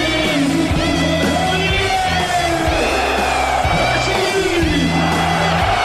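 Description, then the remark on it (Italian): A large crowd of Belgian football fans chants their stadium anthem together, loud and continuous, with a steady rhythmic pulse underneath and cheers and yells mixed into the roar. “La vittoria del match rende quel coro l'inno ufficiale della tifoseria belga”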